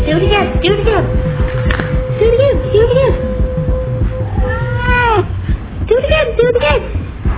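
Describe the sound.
A cat meows several times in a row, its rising and falling cries repeating over a busy background with voices and a steady hum.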